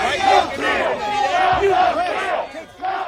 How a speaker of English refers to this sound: Some people celebrating, cheering, honking, literally dancing in the streets.